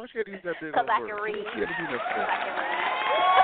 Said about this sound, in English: You guys have done a wonderful job. Round of applause.